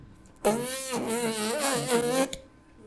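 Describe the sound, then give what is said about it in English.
Lips buzz as if playing a trumpet: one sustained, raspy, reedy tone lasting about two seconds, its pitch wobbling up and down, with no other sounds around it. “Now, when you're playing a trumpet, you buzz your lips.”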